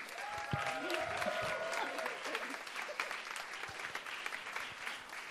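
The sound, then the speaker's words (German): A crowd gives a big round of applause to the winners of the evening's show, with dense, sustained clapping throughout and some cheering and whistling rising over it in the first couple of seconds. “Ich gebe nochmal den Gewinnern des heutigen Abends einen großen Applaus und die haben das letzte Wort.”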